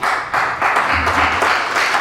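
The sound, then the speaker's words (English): A crowd applauds a supervisor candidate's speech, dense overlapping claps forming a loud, continuous wash of sound that stays even throughout with no voices rising above it. “please hold your applause.”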